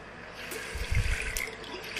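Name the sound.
water running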